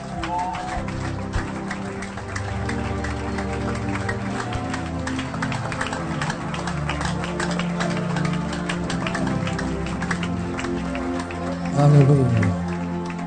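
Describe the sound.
A crowd gives a standing ovation to welcome an evangelist, with steady, dense applause and cheering voices over sustained musical tones, holding at an even level before swelling briefly near the end.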